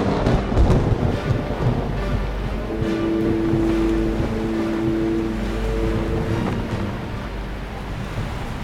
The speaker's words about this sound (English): We're near in the eye of the storm! Hoist the mizzen and raise the topsail! What's that, Captain? I said, we're near in the eye of the storm! What? I can't hear ya! The blasted rain is coming down so hard!